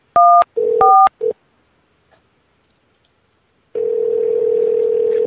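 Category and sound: signal or alarm, telephone keypad dialing tones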